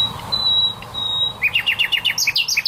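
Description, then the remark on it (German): A male nightingale sings alone: a long, high, pure whistled note, then a quick run of about a dozen bright, repeated chirps rising and falling in pitch. “Wenn Nachtigallmännchen singen, dann wollen sie damit auch die Weibchen beeindrucken.”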